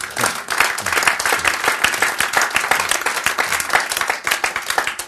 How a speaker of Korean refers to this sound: 박수.